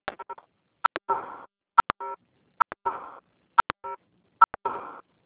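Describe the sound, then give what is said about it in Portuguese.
Repeated bursts of short, high-pitched keypad beeps from someone typing on a keypad while dialed into a group call, pairs of sharp tones each followed by a brief warbling blip, recurring at roughly one-second intervals with silence between and no voices. “Gente, tem alguém digitando, não dá para ouvir.”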